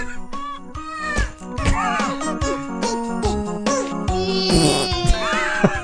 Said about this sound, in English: This is like when they have those cat songs. Yeah, how do they teach those cats how to sing like that? They don't. They pitch correct their meows and make it sound like they're doing it.